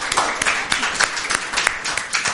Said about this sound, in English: I'm especially delighted to see the bell choir. Yes, why don't we applaud them? You want to applaud them right now?